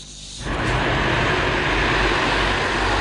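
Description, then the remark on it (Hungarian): Steady roadside traffic noise with cars whooshing past on a road in Pomáz on a car-free day, a broad rushing roar that swells quickly after a quieter moment and then stays loud and continuous. “Sűvítenek az autók Pomáz egyik útján.”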